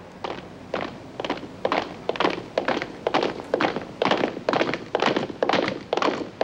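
Heavy boots strike the ground in a steady, regular rhythm, a dozen or so sharp thudding steps like marching, fairly close and loud with no voices.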